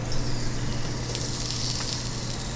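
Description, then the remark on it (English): Organically raised, free-range chicken from a local farm sizzles steadily in a hot skillet in a restaurant kitchen in Lincoln, Nebraska, a dense crackling hiss that holds at an even level throughout, with a low mechanical hum underneath and no talking. “That's Chef Andrew DiDonato giving me the backstory on my chicken sizzling in the skillet.”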